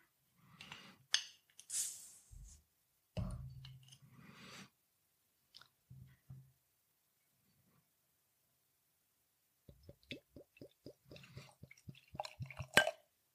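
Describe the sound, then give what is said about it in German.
A bottle of Norwegian stout beer, Landkjerning Stout from the Kinn brewery at 4.5% alcohol, is opened with a few short hissing, clinking bursts, then after a quiet pause the black beer pours out in quick, rhythmic glugs ending with a bright clink. “Okay, dann mache ich die Flasche mal auf.”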